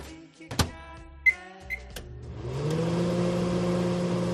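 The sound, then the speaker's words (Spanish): A microwave oven starts up: a few clicks and two short beeps, then a steady, droning hum that swells in and keeps running, with no one talking. “La verdad que ya apetece cuchara, pero a lo mejor lo que está calentando este microondas es una lasaña precocinada o una pizza congelada, porque una vez más no te ha dado tiempo a preparar nada.”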